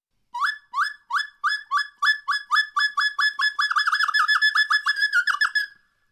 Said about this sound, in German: Drossel Schilfrohrsänger ist leider falsch. Es ist der Schilfrohr-Drosselsänger.